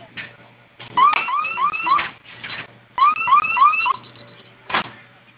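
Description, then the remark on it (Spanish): An electronic security alarm siren, set off by pressing the flame button on the alarm keypad, sounds in two bursts of rapid rising whoops, fairly loud, with brief pauses between the bursts and a faint low hum underneath, and is then silenced by entering a code. “Nuevamente vamos a oprimir el botón de la flamita, que se active la alarma e ingrese la clave que acabamos de dar de alta.”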